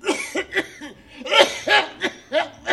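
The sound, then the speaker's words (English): A hacking coughing fit: about eight harsh, raspy coughs in quick succession, some with a strained voiced edge, rising and falling in uneven bursts with no talking. “But you have that terrible cough, and the vaults are insufferably damp.”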